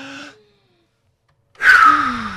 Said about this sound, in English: Let's all take a big deep breath, shall we?